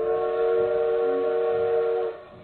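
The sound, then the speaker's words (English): A train whistle sounds one long, steady, loud blast over a low rumbling background, then cuts off abruptly after about two seconds. No one speaks. “As he's about to catch his train home, a woman dashes up to him and forks over a stack of thick envelopes.”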